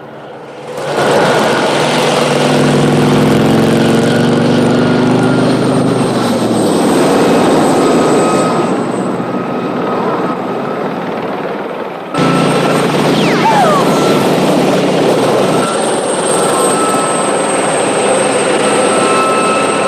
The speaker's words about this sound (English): Ben heads for the hills, where rocks and boulders begin to impede the helicopter's progress.